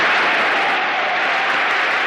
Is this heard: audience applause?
yes